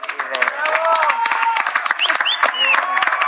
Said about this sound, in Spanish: Pues como siempre, aplausos. ¡Bravo! ¡Bravo!